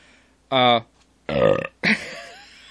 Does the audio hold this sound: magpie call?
no